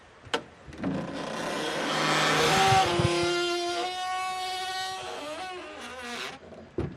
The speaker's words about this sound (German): Jetzt sind wir auf der Stiege. Und hier ist schon ein Klang, wenn ich die Türe aufmache.